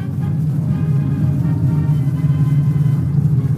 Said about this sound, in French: Ce bruit de moteur d'avion, ce ronronnement ininterrompu, rythme jour et nuit comme une litanie sans fin, le silence des ruines de Berlin.